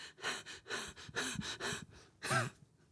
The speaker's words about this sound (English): You're breathing loud enough.